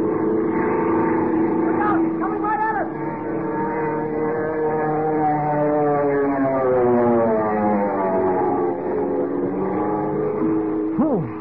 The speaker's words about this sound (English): Without warning, it went into a power dive, hurtling down on Kent, Jimmy, and the commissioner like some giant bullet, motor roaring, wind screaming through the struts. Listen!